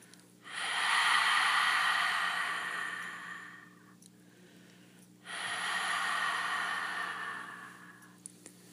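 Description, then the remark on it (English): Two long, steady breaths with a hushed, throaty rasp, like fogging a mirror, made by air passing over the back of the throat during a breathing exercise, each swelling and fading slowly with a short pause between, fairly soft with no talking. “The breath is audible, and it sounds as if you were fogging up a mirror.”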